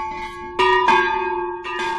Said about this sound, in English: But the sound of the church bells calmed him down. They brought memories of their wedding day and of the words their minister said.